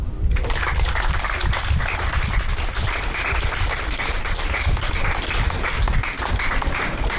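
An audience breaks into steady, sustained applause, a dense wash of many hands clapping at an even loudness for several seconds with no voices over it.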